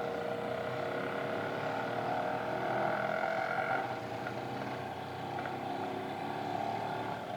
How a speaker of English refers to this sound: Horns, motors, wheels, brakes, a wave of noise scrapes the air outside